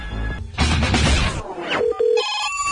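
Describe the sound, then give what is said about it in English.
A telephone rings over the line, its tones arriving in short repeated bursts after a loud, noisy rush of sound at the start. No one speaks. “quiet, it's ringing.”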